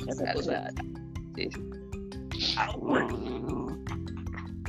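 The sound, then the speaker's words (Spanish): A female cocker spaniel dog growls in low, rumbling bursts, fairly loud, with short grumbling vocal noises running through the few seconds. “Uy, estás gruñendo, creo.”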